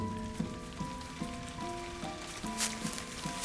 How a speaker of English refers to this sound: No, it's starting to rain.